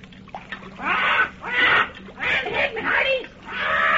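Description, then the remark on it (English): A parrot, a ship's mascot aboard a boat nearing land, squawks excitedly, about five loud, harsh, raspy calls in quick succession, filling the whole moment with little pause between them. “Paul Parrot himself, the ship's mascot, seems to be the most excited of all as the boat nears land”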